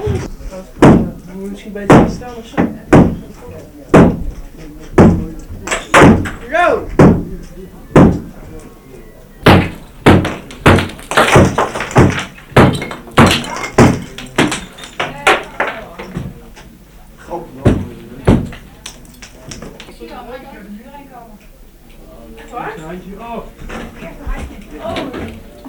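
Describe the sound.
Heavy, repeated thuds and bangs of a masonry wall by a staircase being broken through with a jack, loud, coming in rapid irregular bursts with brief pauses and some voices in between.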